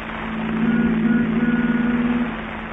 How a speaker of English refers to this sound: The Benny rehearsal has just finished, and Phil is driving Jack home in his new convertible.